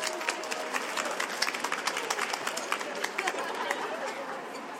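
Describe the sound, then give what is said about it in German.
Audience applause for the contestants called onto the stage of a cupcake-decorating contest, a dense, steady patter of many hands clapping at once, holding evenly for the whole stretch with a faint murmur of crowd voices mixed in. “Dann bitte ich einmal vom Publikum einen tosenden Applaus für unsere Kontrahenten.”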